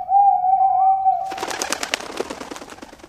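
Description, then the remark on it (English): An owl gives one long, drawn-out hoot, followed right away by a fast, crackling flutter of sound. No one speaks, and the hoot is clear. “Look, there's an owl. Owls don't eat dog food.”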